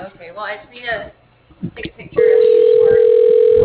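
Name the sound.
telephone ringing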